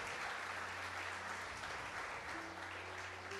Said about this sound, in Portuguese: Você pode aplaudir ao Senhor por essa verdade? Amém.